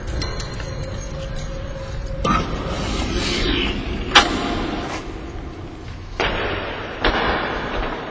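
A 600 kilowatt wind turbine, about 20 stories high, on the UMaine Presque Isle campus above the athletic fields, hums steadily with a faint high-pitched whine in a broad mechanical drone. It turns in a 4 mph wind without making electricity. A few sharp metallic clanks and knocks come at irregular moments. No one speaks.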